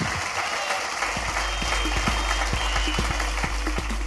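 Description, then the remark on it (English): An audience applauds Ed Gamble steadily, a dense wash of many hands clapping at a fairly loud, even level with a low hum underneath and no voices. “Ladies and gentlemen, give it up.”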